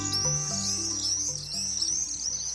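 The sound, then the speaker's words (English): Shrill, high-pitched screaming calls of common swifts zooming overhead pour in a continuous, wavering stream, with a low steady tonal hum underneath. “The high-pitched calls of common swifts zooming overhead.”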